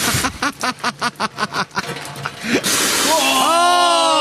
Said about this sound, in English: Oh, what a spray. Straight in his face. Like a water cannon.